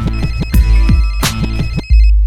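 A telephone rings with a loud, electronic melodic ringtone, repeating tones in a quick rhythm for about two seconds before cutting off into a low hum. No one speaks.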